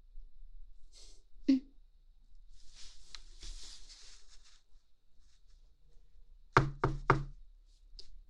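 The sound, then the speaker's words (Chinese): Three sharp knocks on a door in quick succession near the end, preceded by a single earlier thud and some faint rustling amid otherwise quiet. “弟弟，是有人敲门吗？”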